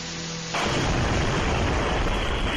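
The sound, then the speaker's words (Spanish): After a half-second of low background noise, a sudden, loud explosion of an electric scooter in Moscow bursts in, followed by a dense, roaring rumble that stays at full strength to the end. It went off as General Igor Kirillov, commander of Russia's radiological, chemical and biological defence troops, was leaving. “Se trata de una explosión de un patinete eléctrico justo cuando el general Igor Kirillov, comandante de las tropas de defensa radiológica, química y biológica de las Fuerzas Armadas Rusas, salía de su”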